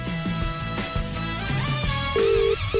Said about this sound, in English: Let me call my hens. It's ringing.